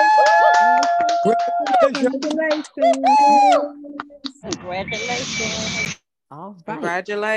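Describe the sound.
Lively, high-pitched voices and whoops give way to a short burst of hand clapping lasting about a second, followed by more talking.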